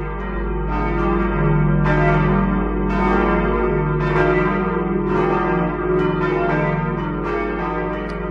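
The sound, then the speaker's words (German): Church bells in Oberteres, Lower Franconia, Germany, peal steadily at noon, several bells overlapping in a continuous, resonant ringing with rhythmic strikes every second or so, loud, with no voices. “Das 12-Uhr-Läuten kam heute aus Oberteres in Unterfranken.”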